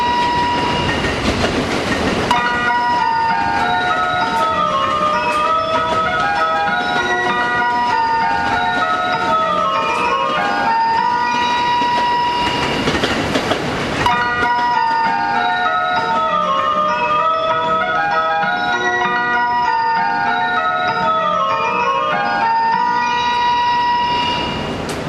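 A bright electronic departure melody loops twice at Izukyu Shimoda Station, with steady rumbling of a train and brief bursts of noise as the Super View Odoriko No. 3 limited express pulls out.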